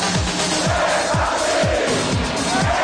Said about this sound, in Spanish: Y la cultural, atención, ovación de gala de la grada, final del partido en León, gana la cultural 2-0.